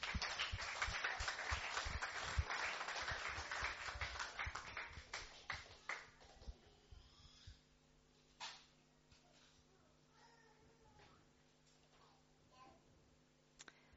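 A small group applauds a church leadership team with brisk, dense clapping for several seconds, then it thins out into a few scattered claps and fades away.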